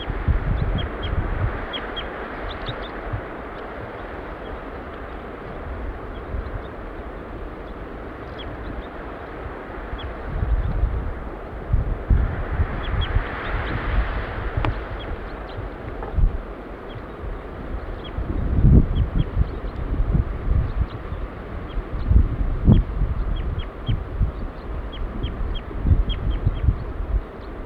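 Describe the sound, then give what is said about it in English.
A female bird gives short, high flight calls, repeated in scattered bursts and fairly faint, over steady low wind rumble and background noise. “Female giving flight calls now.”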